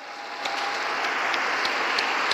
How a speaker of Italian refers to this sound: A tutti i papà salutiamo con un grande applauso.